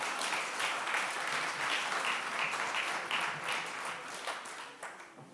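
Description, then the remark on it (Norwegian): A crowd of people applauds steadily, a dense wash of many hands clapping at once that holds for several seconds before thinning slightly near the end, to thank a volunteer for their help. “Da gir vi deg en applaus til og sier takk for hjelpen.”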